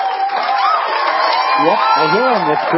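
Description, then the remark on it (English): A loud, dense wash of weekend crowd chatter in a bar, many voices overlapping steadily as people talk about football, with rising and falling whoops and cheers breaking out toward the end. “The weekend crowd, they get to spend an extra hour at the bar, and they're having a good time talking about football.”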